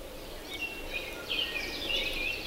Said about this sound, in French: J'entends les oiseaux. Un vrai concert dehors. Ça veut dire que la journée sera belle, ensoleillée.